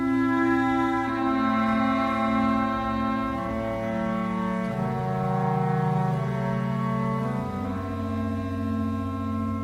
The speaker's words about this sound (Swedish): Ringens ledmotiv hörde vi där.